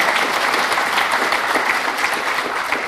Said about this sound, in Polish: Wszystkim odpowiedzialnym za posiłki, za noclegi. Oklaski proszę.